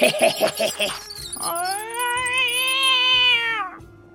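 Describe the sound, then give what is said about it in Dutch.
A cat lets out a long, drawn-out, loud meow after a few short, rough vocal bursts at the start. “Ai, poesie. Ai, poesie.”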